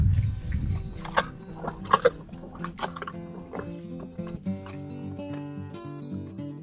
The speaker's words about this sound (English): After the donkeys slurp up their dinner, they wander off into the eucalyptus trees on the other side of their huge pen.